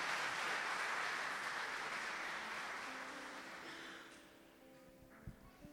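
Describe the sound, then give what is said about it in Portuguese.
An audience at a church service applauds Jesus in a dense, steady wash of clapping that gradually fades out, leaving a few soft sustained tones and faint scattered sounds at the end. “Aplauda Jesus então, porque Ele já pagou o preço para que nós tivéssemos vida.”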